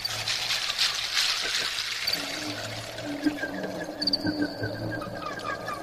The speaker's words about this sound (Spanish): água.